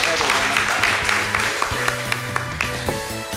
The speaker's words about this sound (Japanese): どうぞ皆様大きな拍手でお送りください。